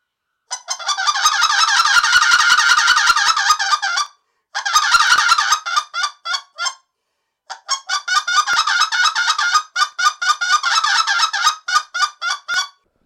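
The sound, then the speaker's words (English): A goose call blown in loud, rapid clucks, first a long rolling run, then after short pauses a mix of single and doubled honking clucks in quick succession, with no talking. “I mixed in single and double. To be honest, this double cluck stuff, I don't use this double cluck stuff in the field.”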